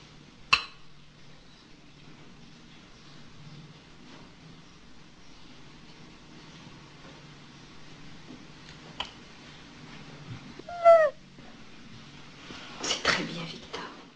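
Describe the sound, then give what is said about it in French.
Against a quiet, low hum, a child's voice gives a short, gliding meow in imitation of a cat, followed moments later by a brief burst of vocal noise and a few faint clicks. “On a bien entendu le miaulement hein, de cet enfant”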